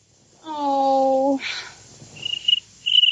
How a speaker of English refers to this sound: I'm not coming back to this house until that cricket is gone.